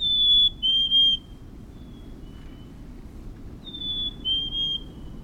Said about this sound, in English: Even in the ruthless grip of winter, when the snow crunches beneath your boots, an ember glows in the lilt of a black-capped chickadee.